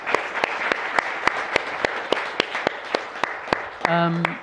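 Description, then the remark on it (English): An audience applauds a panel of speakers steadily, a broad wash of clapping with sharp individual claps landing in an even, quick rhythm. Near the end a voice briefly cuts in over the clapping. “Please, a round of applause for our panelists.”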